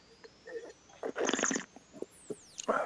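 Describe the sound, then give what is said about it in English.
Quiet mouth sounds of someone sipping a garnet-coloured, medium-bodied 2014 wine from a glass: a short airy slurp drawing liquid through the lips, then small wet swishes and a swallow, with no talking. “And let me sip a little bit.”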